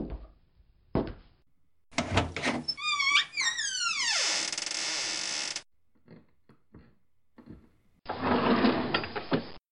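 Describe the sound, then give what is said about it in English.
A sock drawer is dragged open with a loud, squealing wooden creak, followed by a pause, some light knocks, and then a burst of rustling as someone rummages through soft contents. “How the devil did you get in my sock drawer?”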